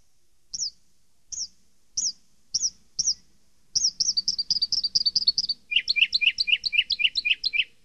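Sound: bird chirping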